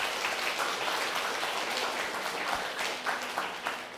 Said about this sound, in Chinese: 大家鼓掌一下